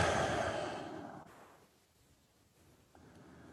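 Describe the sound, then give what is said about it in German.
A single long, deep, relaxed exhale, breathy, trailing off into near silence before a faint intake of breath begins at the end. “Jetzt kommt ein Atmen rein.”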